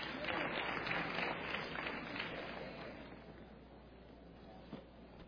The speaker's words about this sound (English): I take that little clap, that's all.